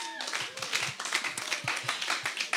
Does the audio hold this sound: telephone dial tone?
no